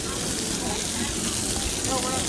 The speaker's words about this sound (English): And we are passing in front of the fountain, as you could probably tell from the splashing water noise.